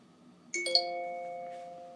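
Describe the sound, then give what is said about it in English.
A bright electronic chime signalling a page turn in a read-aloud of the book Noise rings out, two or three quick struck tones layered into a sustained ringing that slowly fades, heard alone without any talking. “When you hear this sound, please turn the page.”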